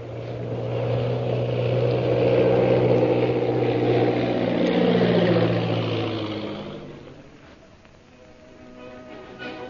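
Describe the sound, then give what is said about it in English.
A loud, steady propeller-plane engine drones at night, its pitch gradually sinking as it throttles down while landing at a camp in the hills bordering the Gobi Desert, then the roar fades away in the last few seconds. “And that night, after landing his plane at the Purple Triangle camp situated in the hills bordering the Gobi Desert,”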